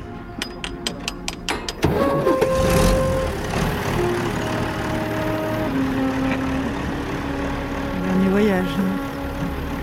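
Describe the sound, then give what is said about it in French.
A run of quick, even clicks like a starter cranking, then a heavy livestock truck engine catches and rumbles steadily, its pitch shifting as it revs and begins to move off, carrying the farmers' animals away on their last trip. “Il y a un camion qui se met en route.”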